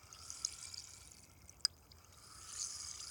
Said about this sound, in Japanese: こちらのお耳も最初は炭酸綿棒さんで、シュワシュワパチパチ、さっぱりしよっか。